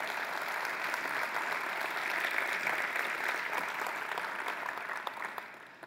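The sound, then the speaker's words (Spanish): A church audience breaks into sustained applause for the Lord, a dense, steady patter of many hands clapping that holds at an even level for several seconds before easing off slightly at the end. “Y si usted lo cree, levántele un fuerte aplauso al Señor.”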